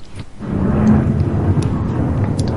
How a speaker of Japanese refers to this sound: うん、すいませんね。またたびたび飛行機がね。